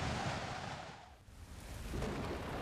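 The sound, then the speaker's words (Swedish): Strong wind roars steadily and loudly, briefly easing in the middle before gusting back up to a full rushing blast. No voices are present. “Vad det blåser!”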